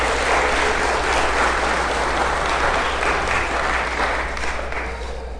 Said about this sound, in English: Oh, the kids did a wonderful job. Could we give them a round of applause again?